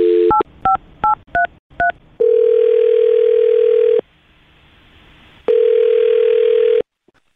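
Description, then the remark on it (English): A quick run of about six touch-tone dialing beeps as a phone number is dialed for a call on the radio show Brook and Jubal in the Morning, then two long, steady ringback tones separated by a pause, loud with no talking. “All right, well, I'm going to dial his phone number right now and see if we can figure it out, okay?”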